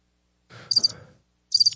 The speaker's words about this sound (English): Yes, hey, that cricket's not a pet.